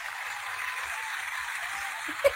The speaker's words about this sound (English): So, Amy, we're going to give you a round of applause. I made Adriana find all these sound effects. So here, hold on.